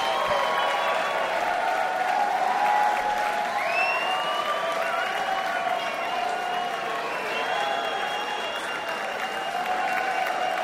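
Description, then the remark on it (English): Sustained, loud applause from a large concert crowd, a dense steady roar of clapping with cheers and whistles rising over it, continuing unbroken for about ten seconds. “Boy, this crowd loved it.”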